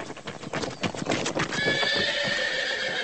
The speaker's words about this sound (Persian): اسب با سرعت برگشت و به طرف پسرک اومد.